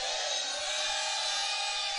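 crowd, audience shouting

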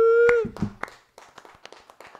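crowd, people clapping

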